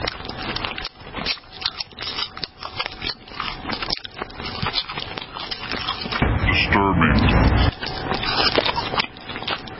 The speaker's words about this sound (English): Let's watch a demon eat. If you're a radio listener, you're lucky because it's disgusting. It's even more disgusting than the sound. Listen to this. We've turned the sound up. Here it is. Here's Bloomberg.